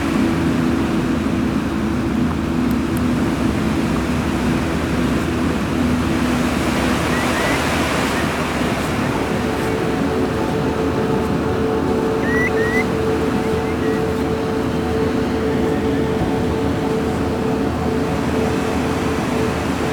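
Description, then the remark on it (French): Ocean waves roar loudly and continuously, a dense wash of surf that swells midway, with a faint steady low hum beneath and no voices. “Balayé par le récital des vagues.”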